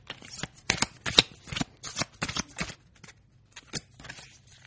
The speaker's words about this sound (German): Ich werde jetzt die Karten mischen.